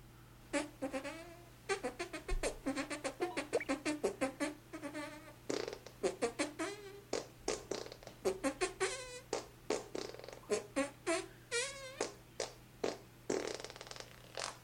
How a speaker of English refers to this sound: way too many farts.